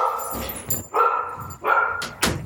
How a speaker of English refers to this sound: I figure my dogs are going to bark at some point.